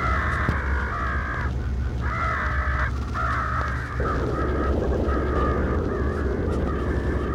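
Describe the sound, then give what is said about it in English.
A flock of black birds circling in the sky over the General Motors building caws repeatedly in loud, overlapping bursts, harsh calls tumbling over one another above a steady low rumble, with no voices present. “Over the top of the General Motors building, I watched a flock of black birds circling the sky.”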